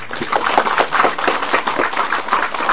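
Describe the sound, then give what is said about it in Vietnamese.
Steady applause from an audience at a Buddhist dharma talk at the Phổ Hiền practice hall, many hands clapping in a dense, continuous patter that stays at an even loudness throughout, with no voices standing out. “Ở đây các vị nghe pháp rất là nhiều, cho tràng pháo tay.”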